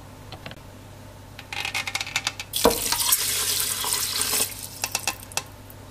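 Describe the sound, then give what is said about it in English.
Water pours into uncooked rice in a pressure cooker, the same amount of water as rice, a bright splashing rush that swells for a couple of seconds, then gives way to scattered clinks and stirring sounds. No one speaks. “And we're going to put the same amount of water as rice.”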